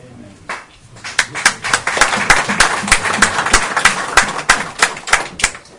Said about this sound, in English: I like that hand clap. You can do it again.